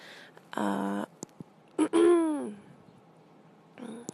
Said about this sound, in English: And it's the last time I'm going to clear my throat, I swear.